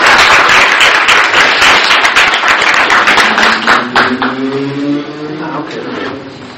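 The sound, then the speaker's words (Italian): An audience applauds to welcome a speaker before he takes the floor, a dense, loud patter of many hands clapping for several seconds, then the clapping thins out and fades as a voice begins speaking over its tail. “Ecco, per cui lo accoglierei con un applauso e gli cedo la parola.”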